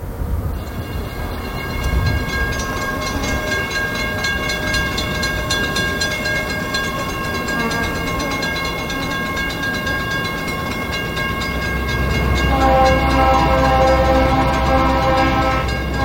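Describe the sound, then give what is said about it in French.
A train rumbles steadily past, with a sustained high-pitched tonal whine and grinding over a heavy low roar that swells louder toward the end. No one speaks. “Aujourd'hui, deuxième épisode, on laisse passer le train.”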